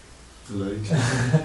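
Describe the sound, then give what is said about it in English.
A voice imitates snoring with one drawn-out, rasping, low-pitched breath that starts softly and grows louder and noisier, a snorting throaty sound with no words. “Snoring.”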